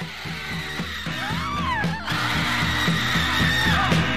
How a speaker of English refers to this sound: And it's also just this great song because it ends with maybe one of the like longest unbroken stretches of screaming ever to be in a 3-minute pop song.